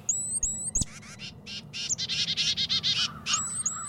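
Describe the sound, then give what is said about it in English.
A chickadee or titmouse alarm call warning other birds about predators: a rapid run of harsh, buzzy scolding notes in a steady rhythm, with a few thin whistled chirps at the start and end, over faint background hum. “Both make alarm calls that can help warn other birds about predators.”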